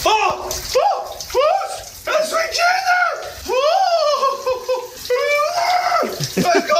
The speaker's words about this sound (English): this is me taking the shower. I took the phone in there with me.